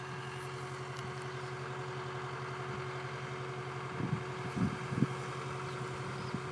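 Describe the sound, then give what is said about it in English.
A tractor engine idles steadily with a constant low rumble and droning hum; it has been sitting idling for about ten minutes. A few brief louder knocks or revs come near the end. No one speaks. “I feel like it's an idle tractor”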